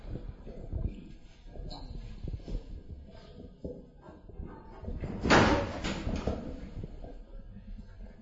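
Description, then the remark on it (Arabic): At the start of an Islamic sermon, a door is opened partway through on request, a short loud scraping clatter against a background of low, muffled noise and faint shuffling. “افتحوا الباب هذا.”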